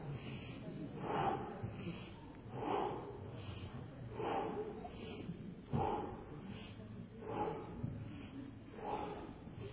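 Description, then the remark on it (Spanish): A group of people exhales forcefully in unison as they raise a leg during an exercise, about six sharp, breathy whooshes at a steady pace roughly every second and a half, with a faint low background murmur. “Y haga la respiración, al subir la pierna, saquen el aire.”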